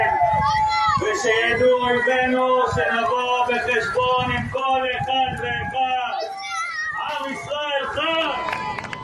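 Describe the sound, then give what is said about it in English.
A crowd on a beach in Tel Aviv cheers loudly and continuously, many voices shouting and whooping in high, overlapping cries, with clapping mixed underneath throughout, as a lifeguard announces over the tannoy that Yahya Sinwar, regarded as the architect of the October 7th Hamas attacks, has been killed. “People cheering and clapping as it was announced that the rat in the tunnel was dead.”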